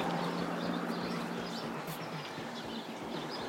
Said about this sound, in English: You were supposed to be hearing all the birds. Let's listen to them. Can you hear the birds?